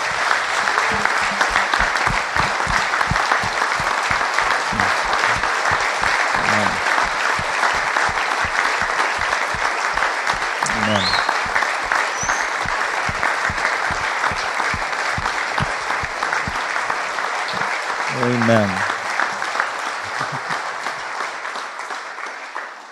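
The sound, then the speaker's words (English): A crowd from two campuses claps loudly and steadily for over twenty seconds as a warm thank-you to two people, with a few whoops and a whistle rising above the applause before it starts to taper off at the end. “And let's just give a very warm thank you, applause to these two for all they have done for us.”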